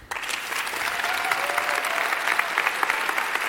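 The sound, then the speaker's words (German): An audience claps steadily, a dense wash of many hands that starts abruptly and holds at a fairly loud, even level throughout, with no voices standing out. “Ganz schön viel Applaus für so viel Uff.”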